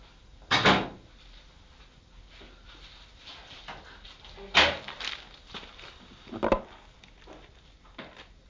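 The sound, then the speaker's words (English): The middle drawer is opened and shut with a few sharp wooden clunks spaced several seconds apart, with quieter rummaging and shuffling between them, without any talking. “shut the middle one because of the dog. He's all right. He's not, he'll be out like a light in the drawer.”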